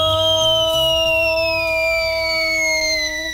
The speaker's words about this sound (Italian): La polizia! No, è l'ambulanza per Nico.